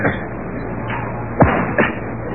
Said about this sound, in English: There, Martin Luther. I hope I have whipped some sense into you.